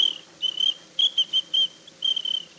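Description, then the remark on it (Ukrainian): A small, high-pitched ladies' traffic police whistle blown in a series of short, shrill toots and a few longer blasts, fairly loud, with no talking. “А якщо вже нарушає правила вуличного движення не гражданин, а гражданочка, так я її сюди не свистів. У мене для неї був дамський свисточок.”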